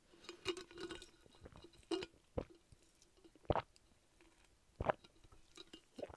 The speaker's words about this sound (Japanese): 最後にちょっと近場でゴクゴクを出しておこう。